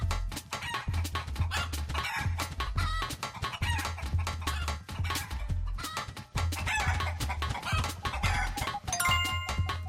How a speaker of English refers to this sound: Whoa, it's a chicken!